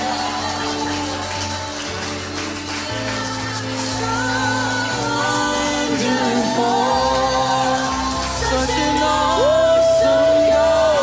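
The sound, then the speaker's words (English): A church audience shouts and claps in praise to the Lord, a loud continuous wash of cheering and applause over sustained keyboard tones, swelling louder toward the end. “If you believe that the Lord has returned your joy, returned your peace, returned your present and your future, returned your family, returned it all, I dare you to just give the Lord a shout and a clap of praise.”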